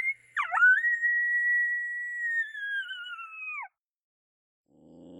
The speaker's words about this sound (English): Then we've got Heat Seeker. That's Moto Moto and our 6-year-old coyote Apollo howling together. Testing phase, this howl combo has really got them, the wild coyotes, to talk for us. Love that howl.